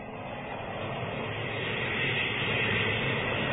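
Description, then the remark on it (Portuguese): A steady, rushing wind blows without a break, a broad roaring hiss that swells slightly louder toward the end. No voices can be heard. “Esse vento traz um mau presságio.”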